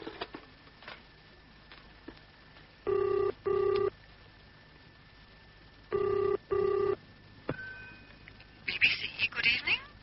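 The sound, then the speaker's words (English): A telephone ringing tone heard down the line, two sets of double rings a few seconds apart, fairly loud and steady against a quiet background, with a brief scuffle of sound near the end. “Can I use your phone first?”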